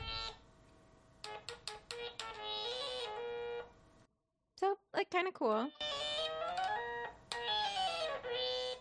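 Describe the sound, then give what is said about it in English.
Buzzy tones from a small stylophone synthesizer, played by drawing on its keyboard, play quick stabbing notes, then sustained pitches, pause, and swoop into rapid sliding glides before settling into wavering held notes. A voice briefly speaks. “So my thought with getting the stylophone was it has a keyboard that you draw on.”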